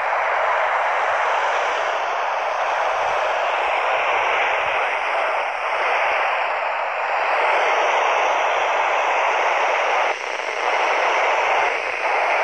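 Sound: handheld radio static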